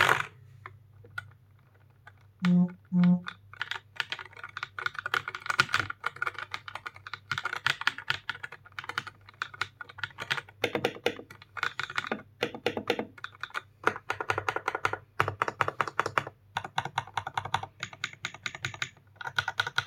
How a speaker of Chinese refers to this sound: 我们开始演示这个键盘的声音。